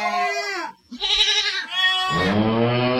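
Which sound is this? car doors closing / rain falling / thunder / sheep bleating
sheep bleating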